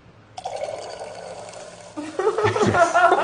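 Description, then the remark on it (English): Another round of drinks is poured into a glass in a steady stream, the splashing growing louder and fuller toward the end, with faint murmuring voices in the background. “Just doesn't say anything, continues to pour like another round of drinks.”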